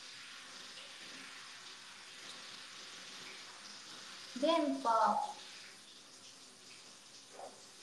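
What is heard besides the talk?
water splashing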